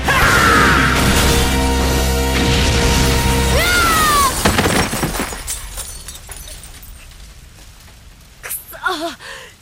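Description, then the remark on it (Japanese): A loud, rumbling roar gives way to a sudden crash and the scattered tinkle of breaking glass as a car explodes and its glass shatters, with debris settling and a brief vocal sound near the end. “あ、車が爆発、ガラスも割れてる。”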